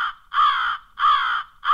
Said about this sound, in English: Stsa'a, which is a crow.